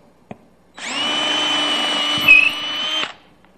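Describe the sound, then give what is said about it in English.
A power drill pre-drills a hole, whirring steadily for about two seconds, loud, with a brief click just before it starts and a slight bump in pitch as it bites in before stopping. “You pre-drill.”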